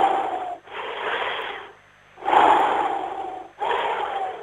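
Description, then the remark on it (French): Deep, audible breaths drawn in and pushed out, four long airy rushes separated by short pauses, with no talking. “non, sur, attends, respiration.”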